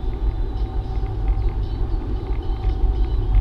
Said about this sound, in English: Okay, why? Look at this traffic.